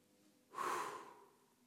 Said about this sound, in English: And a good way to come to terms with those impressions and to get rid of those impressions, to free yourself from it, is by doing that water breath, breathing in through the nose and breathing out through the mouth.